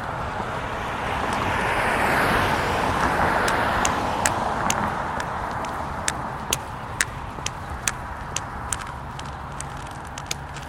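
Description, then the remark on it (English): A broad whoosh of passing traffic at a road crossing swells over the first few seconds and eases off, leaving steady road noise with sharp clicking taps scattered on top, as a pedestrian keeps moving through the crossing. “Since I heard that we still had the surge, I simply kept going.”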